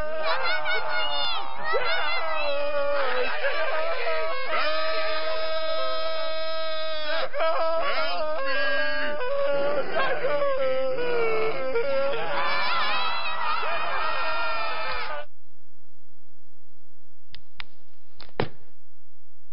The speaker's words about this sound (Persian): صدای داد زدن میاد. تا خاموش بگم صدای داد زدن میاد.